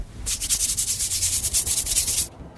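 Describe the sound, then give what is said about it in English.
Rhythmic, squishy rubbing as fry bread dough of flour, salt, water and baking soda is stirred by hand, a steady run of about a dozen quick strokes lasting two seconds before stopping, with no talking. “So we just keep stirring it up until it's nice and gooey.”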